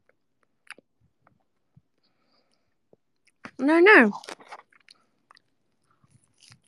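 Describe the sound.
Faint chewing by a person: scattered soft wet clicks and crunches spread through the quiet, broken by one short spoken word midway.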